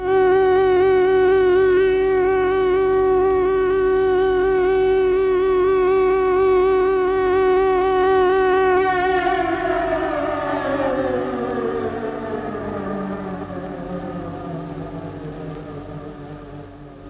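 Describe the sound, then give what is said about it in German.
A loud air-raid siren sounds during an air raid, holding a steady wailing tone, then slowly winding down in pitch, with a low droning rumble of aircraft underneath throughout. No one speaks. “Ja, man gewöhnt sich auch an schlechtes Gewissen, wie man sich ja auch an die Fliegerangriffe gewöhnen musste.”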